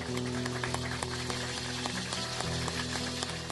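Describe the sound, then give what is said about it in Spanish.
Steady clapping from an audience, a dense crackle of many hands, with sustained low musical tones held underneath throughout. “Quiero que saluden y con un aplauso a … en la percusión.”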